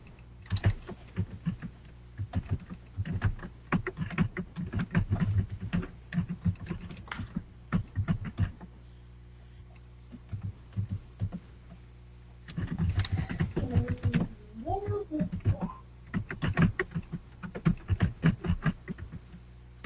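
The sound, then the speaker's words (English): Rapid clatter of keys on a computer keyboard, typed in bursts with short pauses between them, fairly loud and with no one speaking. “Okay, I can see that you're typing.”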